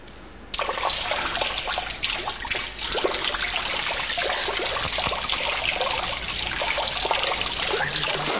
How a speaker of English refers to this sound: If you could turn off the water, that would be great.